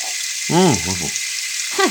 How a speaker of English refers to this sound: You shouldn't brush your teeth under running water. Water is precious.